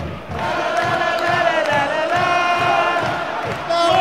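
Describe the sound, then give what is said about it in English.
A Watford FC football crowd chants "Watford!" and shouts in a sustained roar, with steady rhythmic clapping pulsing underneath at a quick, even beat; the noise stays loud throughout. “I'm gonna do some clapping and go whoa, and then I'll report back.”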